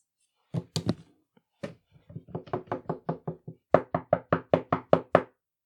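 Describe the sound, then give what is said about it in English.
Knocking on a bathroom door by someone wanting to enter: a few scattered raps, then a quick run of knocks, building to a burst of loud, evenly spaced, insistent knocks. No one speaks. “Did you hear that? Someone wants to enter the bathroom.”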